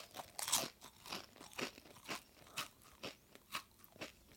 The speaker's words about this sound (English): And we're going to change the crunching sounds that you will hear as you bite into each one. And this time think not about sweetness and bitterness, but think about how crunchy, crisp, and fresh that potato chip is.